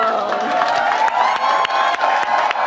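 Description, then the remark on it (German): A crowd of campaign volunteers at Biden's campaign headquarters cheers loudly and steadily, a dense wash of many overlapping voices with scattered whoops and some clapping, sustained without a break for the whole stretch. “Mit Jubel, also man sah ja die Erleichterung auf den Gesichtern der Freiwilligen, die die Kernarbeit dort leisten.”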